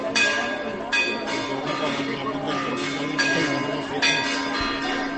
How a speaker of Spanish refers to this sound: Hoy a las 12 las campanas de las iglesias de 41 pueblos han tocado con fuerza, como aquel 18 de julio, no para desalojar, sí para pedir que no se olvide. Es una forma simbólica de avisar.